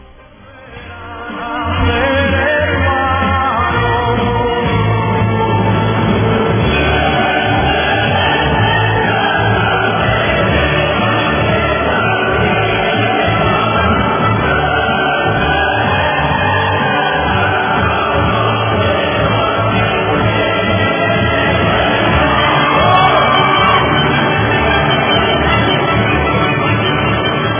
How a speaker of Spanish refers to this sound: Los aplausos y el himno de la alegría, definitivamente, porque no hay otra forma.